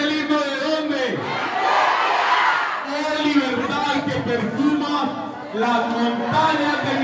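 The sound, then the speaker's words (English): At a public meeting in Belén de Bajira, Colombia, Antioquia state officials lead a crowd chanting the Antioquia state anthem in unison, many voices holding sustained, melodic pitches with steady loudness throughout, briefly dipping before surging again. “At a public meeting, they lead the crowd chanting the Antioquia state anthem.”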